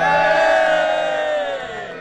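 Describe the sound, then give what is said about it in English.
A hired crowd cheers and whoops loudly and continuously at the opening of Keep 106, a new community radio station in Dorchester, Dorset, many voices blending into a sustained roar that slowly tapers off toward the end. “As you can hear, we got Renter Crowd in to help us open the station.”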